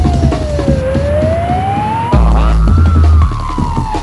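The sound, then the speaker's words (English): A loud wailing siren slides slowly down and then back up in pitch, sounding over a steady jungle techno beat with heavy bass thumps and no voices. “A siren, this is not my sensei, it's a siren.”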